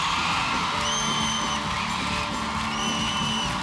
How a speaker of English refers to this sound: Come on. Make my day and make the Holy Spirit's day. Shout with a shout of joy. Come on. So that person next to you gets offended tonight. Come on. Let's offend the devil out of this place tonight.